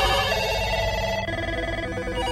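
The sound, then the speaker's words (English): A loud electronic telephone ring sounds continuously from office headsets, about 15 incoming calls ringing at once, its bright tonal warble layered, with no voices present. “Just as I reached for my cell phone, every headset in the office boomed with the sound of an incoming call.”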